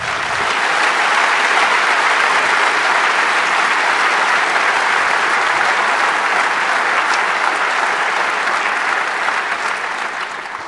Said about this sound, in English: their parents were very satisfied because they had a real professional team there caring care for the kids, which is a round of applause, I think